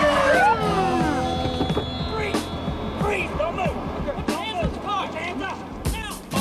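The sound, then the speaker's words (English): Police sirens wail with sweeping tones as two police cars speed into a car park, engines and tire noise piling up into a loud, cluttered scene with indistinct voices underneath. “He moves to the passenger side window and bangs on it as two cop cars speed into the car park.”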